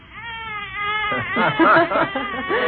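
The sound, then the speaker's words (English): A baby cries when put to bed, beginning with a thin, steady whine that swells into louder, wavering wails with rising and falling pitch, continuing without pause for a few seconds. “Why does he always cry when he's put to bed?”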